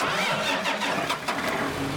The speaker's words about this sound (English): 15 years ago, tractors could be heard at Sano Farms near Firebaugh on any given day. Now the sound of tractors is rare.